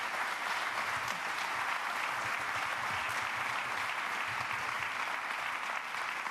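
Steady audience applause at a talk as the speaker, a software engineer working in security, is introduced. A dense wash of many hands clapping at an even, sustained volume with no voices standing out.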